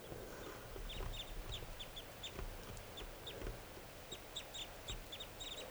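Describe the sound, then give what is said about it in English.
Restless wild birds call repeatedly in short, high chirping bursts, clustered in quick rhythmic runs over a steady low rumble of background noise, with no one talking. “So recording, the wild birds are calling some more. They're getting restless.”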